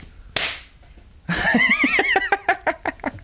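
A single sharp, loud slap of a hand against a forehead rings out, followed after a short pause by rhythmic bursts of laughter that trail off in quick, choppy pulses.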